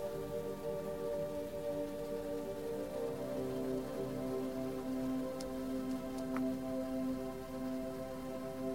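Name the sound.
rain falling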